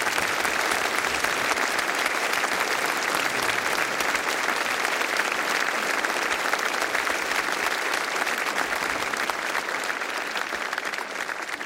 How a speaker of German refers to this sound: Aber großer Applaus für Musik und für unsere Techniker.